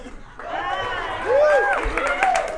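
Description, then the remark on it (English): A comedy-show audience erupts into applause for a woman brought on stage, mixed with rising cheers and whoops, a steady, fairly loud wash of clapping under overlapping excited voices that swells midway and holds. “I just did 35 minutes of great jokes, and she got more of an applause than I got the whole time.”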